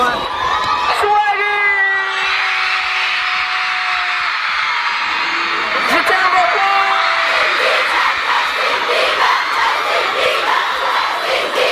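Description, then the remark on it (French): A large crowd of hysterical young pop star fans screams and cheers loudly and continuously, shouting his name, with shrill, sustained high-pitched shrieks rising above the dense roar throughout. “Des jeunes fans hystériques”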